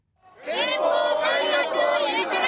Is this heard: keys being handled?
no